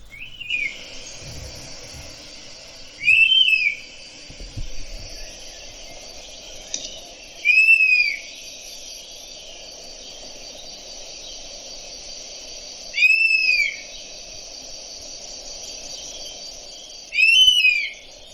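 european honey buzzard call

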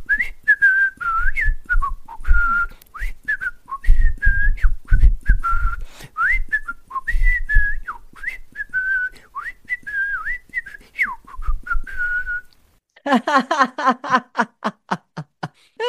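person whistling a tune

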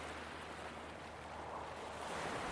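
ocean waves

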